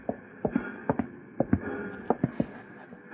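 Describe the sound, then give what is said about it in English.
A black horse ridden by Jesse James clip-clops along at a steady trot, about a dozen sharp paired hoof beats, moderately loud over a faint background hum, with no one speaking. “Yep, that's James on the black horse, see?”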